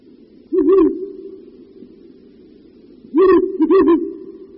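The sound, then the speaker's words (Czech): A Ural owl male gives deep territorial hoots: a short phrase near the start, a pause, then a longer, louder series of throaty notes. No talking. “Toto hluboké houkání nepatří víru velkému, jak by se možná mohlo na první poslech zdát, nýbrž jedné z našich nejvzácnějších sov, puštíku bělavému.”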